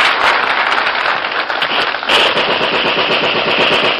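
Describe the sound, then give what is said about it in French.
Loud, relentless volleys of rapid gunfire-like cracks pour out without pause for about four seconds, dense enough to blur together like thunderous applause, with no voices. “Les applaudissements devenaient assourdissants. On aurait dit une fusillade.”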